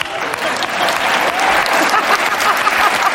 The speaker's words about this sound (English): I'm getting some applause here, man.